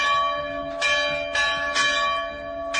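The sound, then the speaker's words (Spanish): Church bells of Christian villages near Mosul, Iraq, ring out again after more than two years, once the Iraqi army retook the villages from ISIS. Several overlapping tones strike roughly every half second, resonant and fairly loud, heard alone with no voices. “Después de más de 2 años, las campanas de las iglesias de los pueblos cristianos han vuelto a sonar.”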